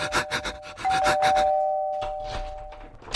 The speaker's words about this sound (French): Il panique, il essaye de le déverrouiller, il n'y arrive pas, alors il court chez son voisin. Il sonne.